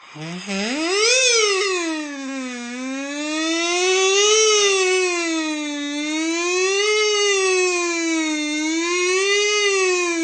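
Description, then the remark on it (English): A buzzy kazoo plays a wailing police-siren imitation, pitch sliding up and down in slow repeated sweeps for about ten seconds, loud with no talking. “Here we go. Police siren.”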